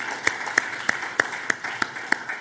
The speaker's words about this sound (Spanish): Y el pueblo de Dios dice, y el pueblo de Dios dice, y el pueblo de Dios dice, dele una ofrenda de palmas al Dios de la gloria con todo su corazón.